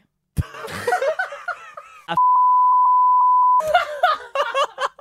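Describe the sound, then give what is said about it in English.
A steady, loud single-pitch censor bleep lasting about a second and a half cuts in between bursts of laughter and lively voices on either side. “Was that just beep? Why would you beep that?”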